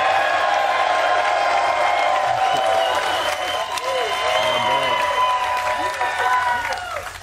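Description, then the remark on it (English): An audience claps and cheers for Seattle Seahawks player Quandre Diggs, a dense wash of applause with voices shouting and whooping over it, holding strong for several seconds before starting to fade at the end. “So without further ado, can y'all clap for Quandre Diggs, please?”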